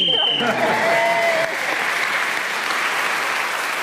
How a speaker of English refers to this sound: Oh, Paul, you got in with half a second to go. I shall try and use my time wisely. We've got a round of applause for it anyway.